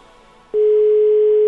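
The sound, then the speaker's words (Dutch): After a half second of faint background hiss, a loud, steady telephone ringing tone switches on abruptly and holds at an even pitch, continuous, with no voices. “Nu toets ik hem wel goed in.”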